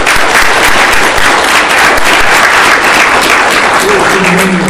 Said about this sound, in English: However, these folks are working really hard to ensure that you, me, and everybody here has a great experience, so I'd just like to give them all a round of applause.